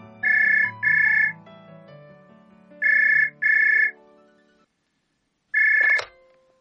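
A telephone rings at a retired woman's home in a double-burst pattern, two pairs of bright electronic trills, then a fifth ring that is cut short by a click as she picks up the call. Soft music plays underneath.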